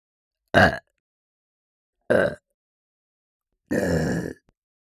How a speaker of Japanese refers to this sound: 次は連続ゲップいきます。3回連続で出します。せーの。